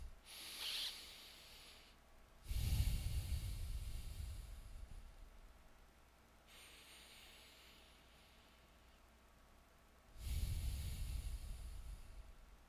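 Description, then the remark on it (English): Deep, airy breaths taken during a guided meditation, with no talking: a faint short breath at the start, then two long, slow rushes of air separated by a quiet pause. “Let's take a few big breaths, and then let's just let our breathing come to a natural level.”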